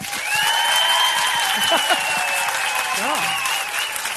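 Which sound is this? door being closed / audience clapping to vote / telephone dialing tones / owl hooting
audience clapping to vote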